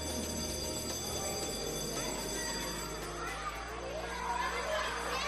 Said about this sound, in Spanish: Este es el timbre con el que, bueno, a muchos alumnos se les convoca a clase.